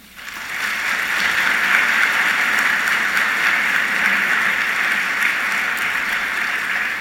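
A crowd claps steadily, a dense, even wash of many hands that swells quickly and holds at a constant loud level for several seconds, with no voices over it.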